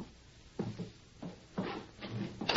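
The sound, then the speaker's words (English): A door being opened, heard as a run of hollow wooden clunks and rattles, about five in a row at an uneven pace, with no one talking. “Open the door.”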